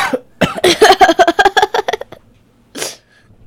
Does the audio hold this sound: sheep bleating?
no